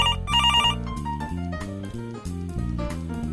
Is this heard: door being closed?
no